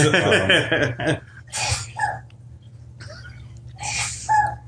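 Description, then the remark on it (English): Two abrupt, breathy sneezes burst out a couple of seconds apart, fairly loud, after a short voiced sound at the start, over a steady low hum. “The prisoner sneezes.”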